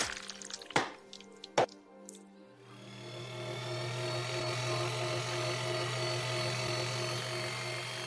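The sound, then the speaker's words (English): A couple of sharp knocks and faint rattling, then a meat grinder starts up, mixing chopped meat with ground beef, and runs with a steady, low droning motor hum and a grinding whir that holds to the end. “April's voice trailed off as Jack began chopping up more body parts and mixing them with the ground beef in the meat grinder.”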